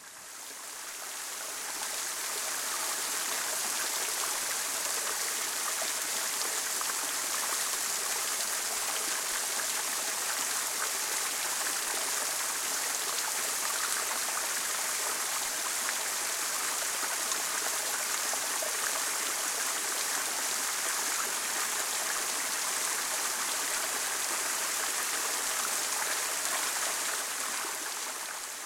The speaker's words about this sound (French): Voici donc la cascade de Putaval.